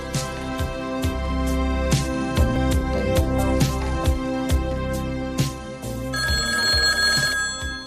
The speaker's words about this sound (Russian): И действительно, без четверти 10 телефон зазвонил.